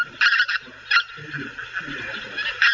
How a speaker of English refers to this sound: And those birds fly at night and they'll call regularly. They're unlike the honking sound of grey-lag geese. White-fronted geese make a yapping, a sort of yap, yap, yap, yap.